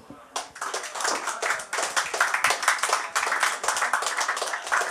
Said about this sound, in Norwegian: Applaus.